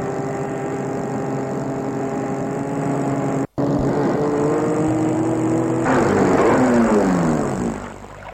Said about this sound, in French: va arrêter sa voiture près de la maison.